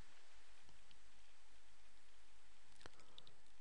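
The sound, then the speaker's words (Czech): A single sharp mouse click, with a fainter tick just after, as a table is selected for import in Excel, breaks a steady hiss of background noise. No one speaks. “Tabulku si kliknutím vyberu, kliknu na importovat, zadám umístění.”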